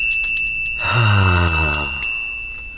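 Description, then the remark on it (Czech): A small bell jingles steadily with rapid repeated strikes and bright, lingering high tones, fairly loud, while a lower sustained tone swells briefly underneath midway. “Slyšíte ten zvoneček? To je přece Ježíšek.”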